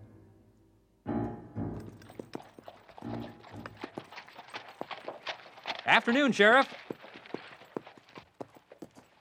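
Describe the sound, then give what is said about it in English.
Horses' hooves clip-clop steadily on a hard street in a brisk, uneven rhythm as a party of riders rides into the town of Bologna, while a man briefly calls out a greeting over the clatter. “isn't that Jimmy McCracken's horse?”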